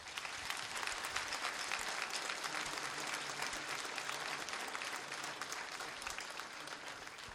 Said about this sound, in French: Je crois qu'on peut les applaudir.